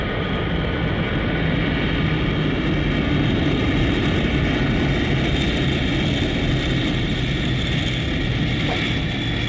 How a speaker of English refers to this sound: The approach is clear for an immediate landing at New Jerusalem's Victory Field. The plane is landing now, approaching the runway.